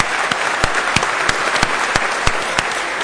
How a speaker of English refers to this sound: Can we just have a quick round of applause for those fantastic organizers and their hard work?